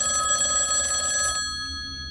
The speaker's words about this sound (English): 5 minutes go by again. His phone starts ringing this time.